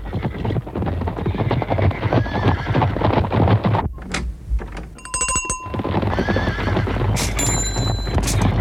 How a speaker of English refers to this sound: And now a herd of zebras visiting the same chemist to ask for something for the weekend!